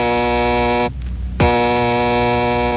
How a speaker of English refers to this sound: One night in the Wayne Mansion, Bruce and his young ward, Dick Grayson, have just finished dinner when suddenly the bat phone rings.